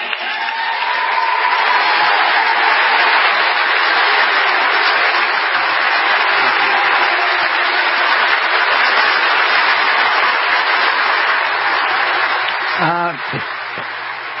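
A crowd applauds and cheers after the announcement of an executive order establishing a national commission to promote patriotic education, the 1776 Commission, in a steady, dense roar of clapping that holds at an even loudness for about thirteen seconds before cutting off abruptly.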